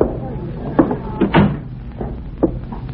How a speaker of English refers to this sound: Shut the door.